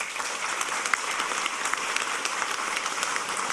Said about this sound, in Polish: Wielkie brawa. Grupa historyczna, Zgrupowanie Radosław. Z nagrodą Kustosza Pamięci Narodowej.